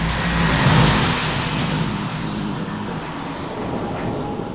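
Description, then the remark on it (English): A car goes by in the rain, its broad road rumble swelling briefly near the start, then holding as a steady, fairly loud wash of tire and engine noise. No one speaks. “As the car passed, the kid in the passenger seat looked at me.”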